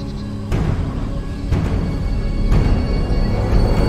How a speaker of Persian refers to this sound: نواخته شدن تبل فرمان ورود شما رو صادر میکنه.